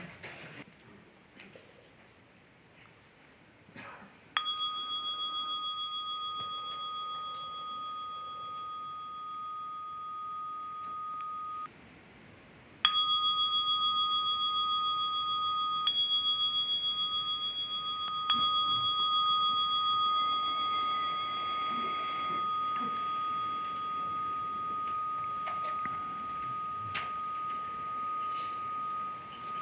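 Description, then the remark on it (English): A meditation timer bell rings out with clear, steady tones, struck about four times and each chime sustaining long and evenly into the next, with no talking. “I'll simply set the timer.”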